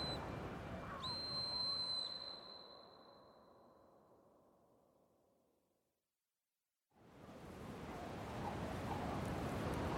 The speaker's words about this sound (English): clasps his emergency whistle between his lips and blasts 3 times. He has to try, at least.